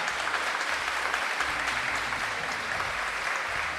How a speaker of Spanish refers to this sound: Es todo lo que tengo, amigo. ¡Aplausos!